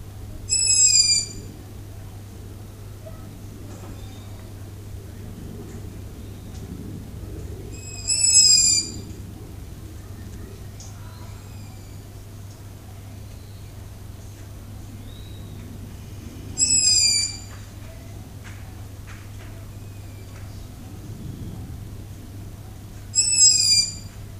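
An owl calls at night, shortly before 8 pm on 15 July 2006, in a residential area on the plains of Niigata Prefecture, Japan. It gives four short, high-pitched cries spaced evenly about eight seconds apart over a steady low hum and faint background ambience.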